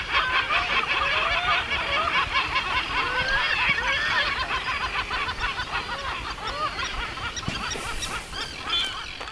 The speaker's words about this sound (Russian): Вот я выхожу на пляж, и передо мной открывается безбрежный синий простор и небольшой остров, на котором и обнаружился источник этих необычных звуков. Оказалось, это просто чайки.